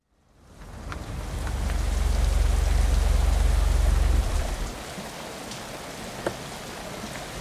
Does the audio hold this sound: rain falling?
yes